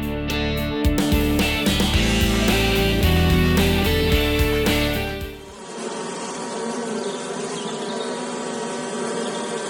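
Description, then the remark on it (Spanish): Stingless bees of the tribe Meliponini buzz loudly and continuously, first as a dense droning hum, then shifting to a hissier, swarming texture for the rest, with no voices. “En esta ocasión, las abejas de la tribu Meliponini nos enseñarán mucho sobre el trabajo en equipo y la asociatividad.”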